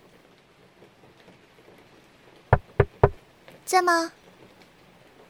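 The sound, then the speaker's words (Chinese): Steady rain falls throughout with a soft, even hiss, broken by three sharp knocks on a door and then a brief call from a voice. “哎，下雨了。”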